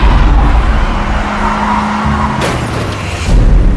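car tires skidding

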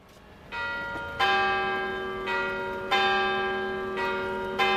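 church bells tolling

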